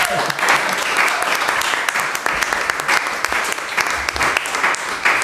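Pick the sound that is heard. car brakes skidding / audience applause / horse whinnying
audience applause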